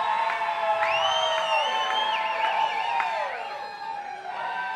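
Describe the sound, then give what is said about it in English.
A crowd screams and cheers together in a sustained, high-pitched roar, with individual shrieks and whoops rising and sliding above the mass of voices for several seconds. “We ain't let them come out unless I hear you scream.”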